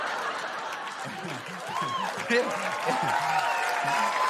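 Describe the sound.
An audience applauds steadily for about four seconds, a dense patter of clapping with scattered laughter and excited voices rising over it.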